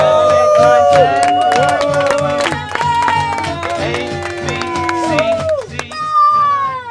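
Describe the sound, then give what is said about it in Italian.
A loud crowd of football fans cheers and chants in unison, many voices blending into a dense, continuous roar with rising shouts throughout, sounding energetic. “Cosa? La gabbia 2009! Tifo!”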